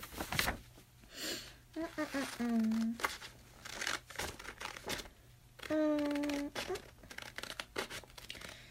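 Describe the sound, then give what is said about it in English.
Scissors snip through paper in a series of crisp, irregular cuts and rustles, with a couple of brief wordless vocal sounds rising between the snips. “Now for the scissors.”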